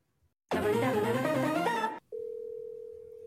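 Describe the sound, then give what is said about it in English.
An outgoing phone call that goes unanswered: a loud, jumbled burst of electronic tones lasts about a second and a half, then a steady, unbroken phone-line tone hums on alone. No voices are heard. “He's not picking up his phone.”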